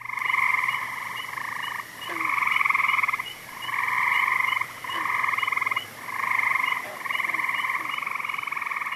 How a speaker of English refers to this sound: If you guessed tree frogs, you're on the right track. And if you knew that the first call was the gray tree frog and the second was Cope's gray tree frog, you're a frog call phenom.